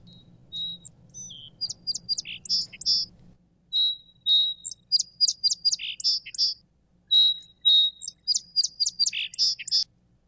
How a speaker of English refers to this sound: So that's the first one. So that's the recording of the song sparrow.